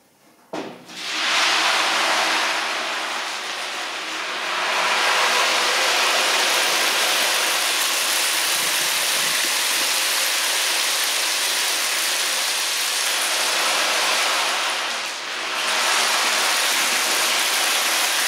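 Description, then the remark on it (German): A loud, unbroken roar of wind and churning water from a great storm at sea, with waves breaking over a ship, rushing on steadily with a brief dip near the end before surging back. No voices. “Ich war auf ein Schiff geflüchtet. Da kam ein großer Sturm auf.”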